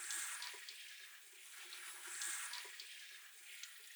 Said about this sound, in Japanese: 泡残らないようにしっかり流します。こうやって手ぐしをしないと意外と頭皮にシャンプー残っちゃうんですよね。